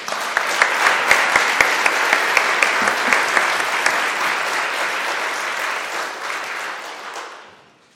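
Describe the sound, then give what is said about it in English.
A crowd claps steadily for several seconds, a dense, bright patter of many hands with a few sharper individual claps early on, then fades out near the end, applauding the musicians, singers and AV team. “And since you do allow applause here, could we applaud everyone one more time?”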